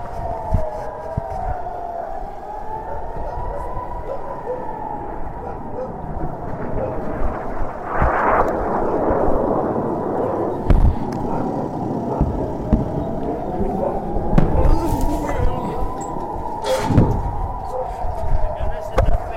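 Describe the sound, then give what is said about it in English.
Rockets roar overhead amid a steady wailing siren while journalists shelter in a home, with a loud rushing burst midway and a couple of sharp cracks near the end, all against a rumbling outdoor background. “But let me just first play for you the sounds of the rockets overhead”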